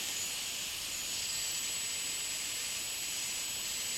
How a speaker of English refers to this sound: It lowers the ultrasound. I choose a frequency I want to hear, from 16,000 to 130,000 hertz. The sound in the background is my computer purring and squeaking. These are sounds I cannot hear normally.